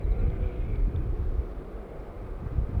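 Motorcycles passing by: a steady, low engine rumble and drone that fills the whole stretch without letup, swelling slightly at the start and end. No one speaks.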